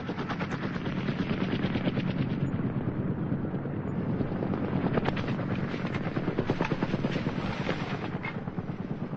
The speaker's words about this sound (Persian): اما هلیکوپتر از بالای سرشون رد میشه و راه خودش رو ادامه میده.